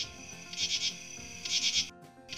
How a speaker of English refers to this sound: This week on Discover Nature, we'll shine some light on the northern true katydid.